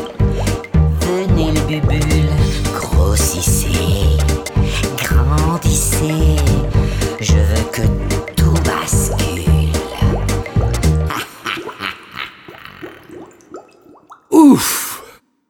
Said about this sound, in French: Ça y est, j'ai des bulles, elles s'accumulent, se bousculent.